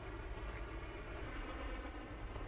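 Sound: train going by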